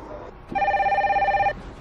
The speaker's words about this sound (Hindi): तुम तो फोन उठाने वाले नहीं हो।